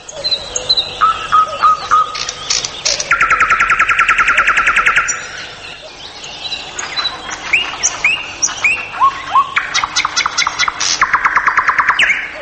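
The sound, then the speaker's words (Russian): A male nightingale sings to a female, a varied, rich song: rapid repeated high chirps, sustained buzzing trills, and sweeping whistled notes in shifting phrases, loud and continuous with brief pauses between bursts. “То есть соловей поет для самки самые очаровательные песни, потому что уже половые гонады немножко уменьшились, он не так торопится, не так колено скручивает, он их расцвечивает, поет более медленно, более разнообразно.”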